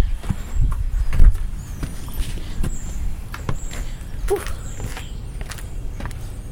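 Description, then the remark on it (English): Slow, uneven footsteps move through a cluttered laundry room where people store their junk, each step a soft scuffing thud with light rattles and rustles between them and a low steady hum underneath. No one speaks. “There's all kinds of crap in here, so I have to go a lot more slowly when I'm walking through the laundry room.”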